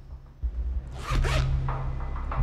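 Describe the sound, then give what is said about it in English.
A rucksack containing spray paint is picked up and handled by someone wearing rubber gloves, and its zipper is pulled open in one long, rasping sweep, followed by a few softer scrapes and rustles over a steady low hum. “Joe pulls on rubber gloves and picks up a rucksack.”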